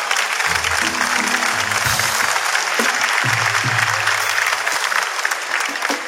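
A crowd applauds a guest who has come on the show, loudly and steadily for about six seconds: a dense crackle of many clapping hands, with a few low voices and shouts mixed in underneath.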